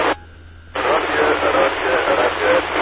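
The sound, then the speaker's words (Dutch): A weak amateur radio transmission almost drowned in heavy, steady static, with a faint garbled voice barely poking through. The hiss cuts out briefly near the start, then resumes. “Ah, met een hele hoop ruis, hè.”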